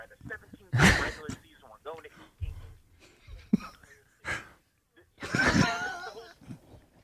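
A man on WIP radio lets out loud, drawn-out yawns mid-show at a caller, two big strained ones with breathy, groaning sounds and a few short vocal noises in between.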